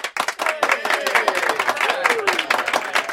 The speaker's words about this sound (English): He held up two large certificates. Everyone clapped and cheered.